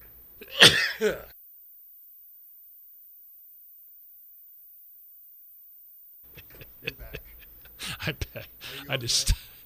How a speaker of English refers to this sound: I sneezed and almost knocked myself over. Yeah, that was one of those sneezes that comes out of nowhere. You know, you sit here talking, all of a sudden you go, boom, wham!